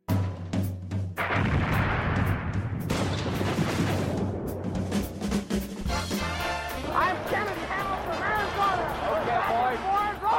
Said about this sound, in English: It's after midnight here in London. People are dancing on the rooftop and fireworks are exploding in all directions.